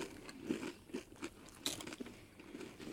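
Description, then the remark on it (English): Loud crunching of Doritos chips and M&M candies being chewed together, with a steady rhythm of sharp bites and grinding, no talking. “Let's see about this combo here. Very crunchy.”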